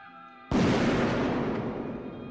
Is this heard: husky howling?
no